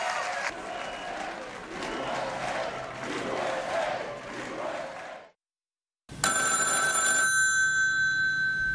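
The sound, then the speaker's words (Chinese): After several seconds of a loud cheering crowd and a brief silence, a telephone bell rings out loud, a bright metallic trill lasting about a second before fading, for the congratulatory call Donald Trump received from Tsai Ing-wen on December 2, 2016. “2016年12月2号，特朗普接获蔡英文的祝贺电话。”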